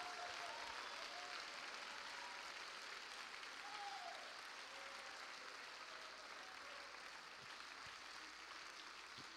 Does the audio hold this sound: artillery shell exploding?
no